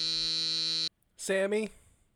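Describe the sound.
A harsh, steady apartment door buzzer, pressed from inside the building to ask to be let into an apartment, drones loudly for just under a second, cuts off abruptly, and after a short pause a brief voiced sound follows.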